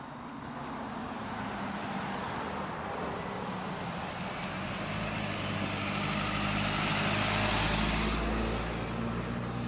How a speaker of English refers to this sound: This is specific waste at Planned Parenthood in Cincinnati. Go ahead and play that clip. There's the truck pulling out.